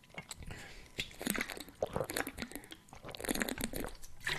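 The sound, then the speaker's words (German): A plastic screw cap being twisted open on a water bottle, a dense run of sharp crackling and crunching clicks over several seconds, fairly loud, with the bottle's plastic crinkling in between. “Ich habe mittlerweile verschiedene Wasserflaschen für die Nacht, weil ich in der Nacht einfach zu faul bin, wie man es vielleicht hört, so einen Drehverschluss aufzumachen, habe ich jetzt so eine Nachtflasche.”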